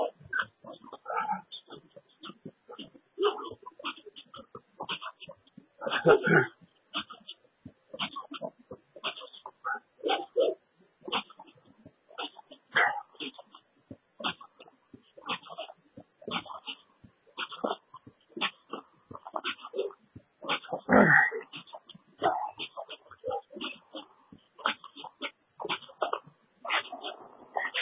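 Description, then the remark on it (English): A dog whimpers and barks in a steady stream of short, uneven yelps and whines, fairly loud, with no one talking over it. “Come after me, dog? Don't even think about it. Don't even think about it, dog.”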